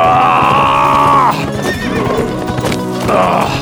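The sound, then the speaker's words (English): A horse lets out a loud, drawn-out whinny as its rider pulls hard on the reins, then hooves clatter in a quick uneven rhythm on a hard trail before a second shorter whinny rises at the end. “He pulled hard on the reins as he saw Daggett on the ground.”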